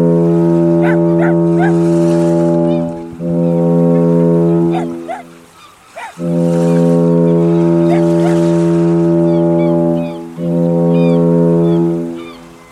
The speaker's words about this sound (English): Her voice quivered as the foghorn bleated boldly again and again.